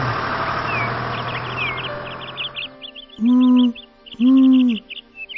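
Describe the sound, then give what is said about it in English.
Two loud, drawn-out owl hoots ring out one after the other, following a few seconds of rumbling traffic-like noise with faint chirping birds that then falls away. “I am the owl.”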